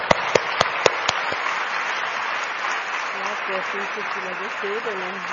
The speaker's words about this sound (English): Please give her a big applause.